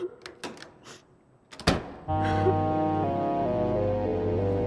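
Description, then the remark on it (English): A few soft clicks and rattles lead into a sharp thud as a door opens and shuts while a father walks out of the house, then sustained music with steady tones swells in right after and keeps going. “I follow Dad out the door, begging him to stay, but he insisted he was doing the right thing.”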